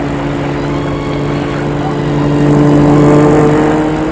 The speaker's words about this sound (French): La voiture est passée.